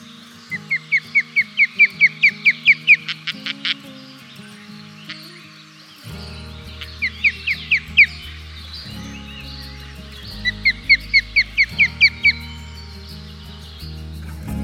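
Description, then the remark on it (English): Osprey calls: three bursts of rapid, high, whistled chirps, each a run of about eight to ten sharp notes, heard over a steady, low musical backing. “Listen out for their calls like this.”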